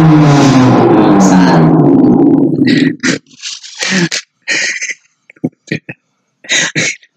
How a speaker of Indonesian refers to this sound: Mobil, anjir. Sorry ya pendengar, ada mobil tadi lewat. Biasa kita kan podcastnya apa tappingnya di sebelah jalan tol.